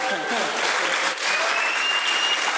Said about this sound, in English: But thank you guys so much for being here. Yeah, thank you. We got to clap this thing out. Come on, it's a live podcast.